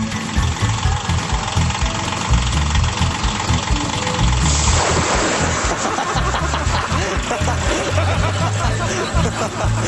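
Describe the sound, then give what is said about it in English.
A tractor engine rumbles steadily and loudly, with a rough, knocking idle that continues throughout without pause. “If the sound of the tractor doesn't wake him up, this ought to do the trick.”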